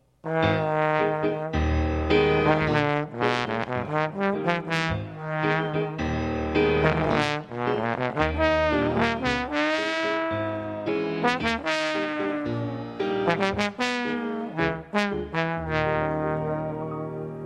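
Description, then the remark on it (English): A trombone plays the duck's theme, a lively melody of short, bouncy notes and a few longer held tones, rich and brassy, sounding steadily throughout with no talking. “The duck by the trombone.”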